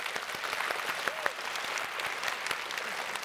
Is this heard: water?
no